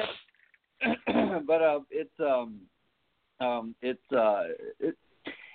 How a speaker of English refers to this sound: So, I'm sorry. Now I'm coughing. God, right. Now we're all sick on the radio.